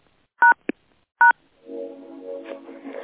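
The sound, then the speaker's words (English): Two short, loud telephone keypad tones beep with a brief click between them as someone tries to unmute the phone lines, followed by a murmur of voices or line noise underneath. “I'm sorry, the phone is not unmuting, so please affirm aloud right where you are.”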